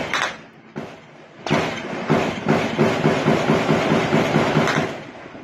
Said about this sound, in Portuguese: Isso que você está ouvindo é o registro que um morador fez de pessoas atirando contra um helicóptero da polícia. Suspeitos de tráfico que eram procurados pelos policiais tentaram alvejar a aeronave.